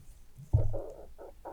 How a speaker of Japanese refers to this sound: お腹の音がすごい鳴るよね今日。